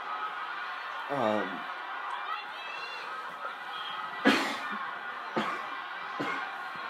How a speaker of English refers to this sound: Oh, sorry, I'm coughing so much.